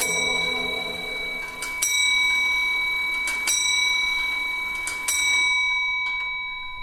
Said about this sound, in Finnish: Siinä tuli aikamerkki oikein alkuperäiseltä vanhalta Könnin kellolta. Kyllä, siinä Juhan Könni valmistama koneisto löi kello 4 ja se on Ilmajoella valmistettu siellä 1800-luvun alkupuolella.